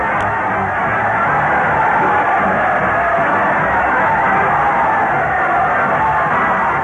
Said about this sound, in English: Listen to that crowd cheer as Fred Allen leads his parade of stars to the Old Town Hall.